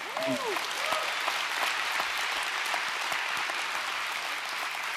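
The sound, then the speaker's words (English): A church audience claps steadily for several seconds, a dense, even wash of many hands at a strong, constant level, with a brief voice or cheer rising at the very start. “You're going to wish you'd held your applause when I say this next thing.”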